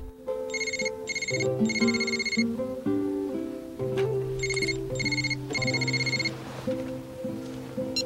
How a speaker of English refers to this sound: Vicky is laying in bed awake when her mobile phone begins to ring.